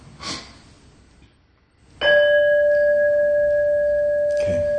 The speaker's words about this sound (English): Could you ring your bell once?